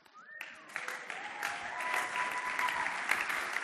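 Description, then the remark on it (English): Audience applause swells into steady, dense clapping from a sizable crowd, sustained throughout at moderate loudness, with a faint tonal whistle-like sound drifting underneath, as people are called up for eldership and deaconship. “And if you could, just give them an applause and as they come up.”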